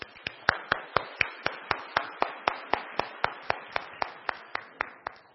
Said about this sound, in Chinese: 大家不如我哋用掌声一齐回应。